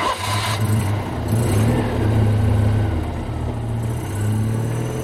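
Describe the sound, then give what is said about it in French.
A car engine revs steadily with a low droning rumble, rising in pitch as the car pulls away with a boy in the back seat, loud, with no voices. “À peine le temps d'un dernier baiser qu'il est déjà à l'arrière de la voiture, en compagnie d'un autre garçon, plus jeune d'un an ou deux.”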